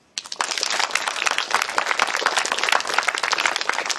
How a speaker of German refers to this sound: Freundlicher Applaus für den Fusionsreaktor.